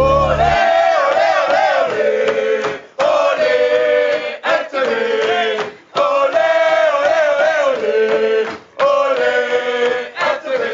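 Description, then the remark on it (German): A group of about 30 teenagers at a ski camp of the Thomasgemeinde Basel-Stadt, in a hut, screams together in loud, sustained, high-pitched bursts, about four long waves of shrieking with brief dips between them, no speech. “Schreien heute im Treffpunkt auf DRS1.”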